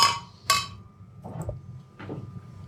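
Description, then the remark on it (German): Two bright, ringing clinks about half a second apart as glasses are knocked together in a toast among men, with a thin tone lingering afterward and soft muffled sounds following. “Prost, die Herren. Prost.”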